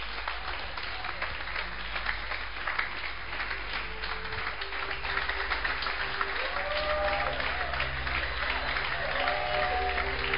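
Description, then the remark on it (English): A crowd applauds steadily with dense, continuous clapping that swells slightly toward the end, while faint voices and a few rising whoops or tones sound beneath the applause. “You are clapping, but you are not happy.”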